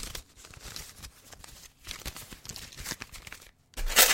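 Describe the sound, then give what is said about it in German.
A dropped 10-euro banknote is handled, its paper crinkling and rustling in quick, irregular bursts, with a short pause before a louder crumpling flurry at the end. No one speaks. “Ich habe hier Geld liegen. Ganz, ganz viel Geld. Ups, da ist mir ein 10-Euro-Schein runtergefallen.”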